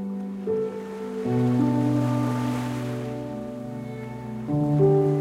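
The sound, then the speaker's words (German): Soft ocean surf at a sandy beach at sunset swells and rushes in the background beneath sustained, calm musical chords that shift a couple of times, with the waves rising to a gentle peak midway. “Spürst noch einmal das warme, goldene Licht der untergehenden Sonne auf deiner Haut, hörst das Rauschen des Meeres.”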